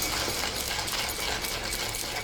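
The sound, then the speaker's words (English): A coffee grinder whirs steadily through the beans, a loud, continuous grinding buzz with a gritty rattling texture and no pauses or voices. “I grind the beans.”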